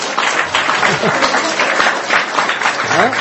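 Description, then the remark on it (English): A crowd applauds a 70-year-old guest for coming, steadily with dense, continuous clapping, fairly loud throughout, with a few faint voices mixed into the noise. “So let us clap for him for coming here.”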